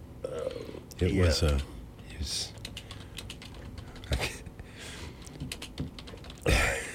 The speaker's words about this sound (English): He's typing, folks. Yeah. He's multitasking.